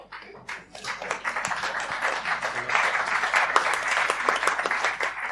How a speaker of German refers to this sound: das war dein Applaus.